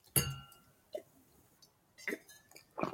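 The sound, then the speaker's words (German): A single bright clink of glasses of red wine from the Rhine in a toast, with a short ringing tone, followed by a few soft sipping and mouth sounds amid quiet. “Das hier ist ein guter Rotwein vom Rhein. Und ich würde sagen, Prost, ne?”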